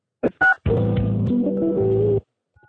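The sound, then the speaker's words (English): Two quick touch-tone keypad beeps sound clear, then a longer warbling electronic tone follows for about a second and a half before cutting off, as an account number is dialed on a phone keypad. No one speaks. “account number followed by the hash or pound key.”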